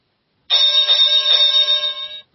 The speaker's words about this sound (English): Okay, should we get started? Let's ring the bell.